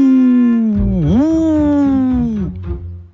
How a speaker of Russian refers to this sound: Вдруг слышит Ойка, кто-то в лесу воет.